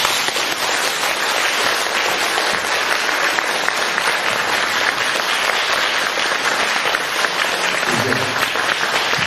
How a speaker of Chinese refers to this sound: 你看看呢，人不多，但是我听这个掌声就是几千人的掌声。